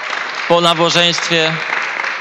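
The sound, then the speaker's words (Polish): A church audience applauds a member's birthday with a steady, dense wash of clapping that continues throughout, while a voice speaks briefly over it in the first half. “Brawa!”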